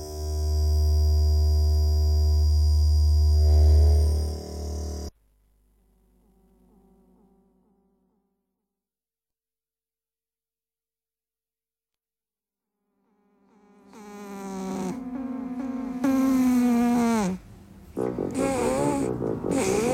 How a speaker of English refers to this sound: because the microphone was placed in front of the friendly neighbourhood cat that was perched on his sofa. right. snoring very loudly.